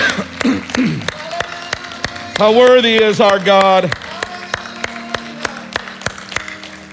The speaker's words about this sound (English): Would you clap your hands one more time?